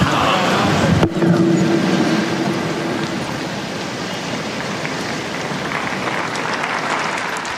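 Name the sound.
applause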